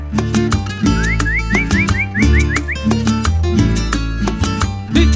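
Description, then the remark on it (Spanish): A farmhand's cattle-herding call (canto vaquero): a run of about eight quick, rising whistled slides in a steady rhythm, heard over loud, busy music with a pulsing beat. “Luego escucharás a un peón haciendo un canto vaquero.”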